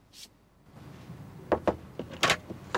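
Two quick knocks on a camper van door at night, followed by a rattling clunk and scrape as the door is opened, fairly quiet, with no voices.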